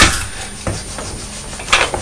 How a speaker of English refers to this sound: Mummy's washing up the pots.